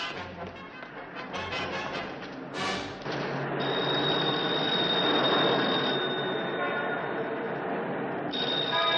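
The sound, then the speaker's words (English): A telephone in a phone booth on a city street rings in rapid, rattling bursts, loud, then gives way to a steady high tone over a wash of busy background noise. “He looks in at the ringing phone.”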